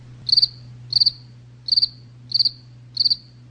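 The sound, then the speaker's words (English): A crickets sound effect played on the Dr. Pat Show: crickets chirp in a steady, evenly spaced rhythm, five quick trilled pulses across a few seconds, clear against a low constant hum, with no voices. “Those are crickets.”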